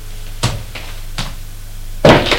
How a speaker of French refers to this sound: La porte s'est ouverte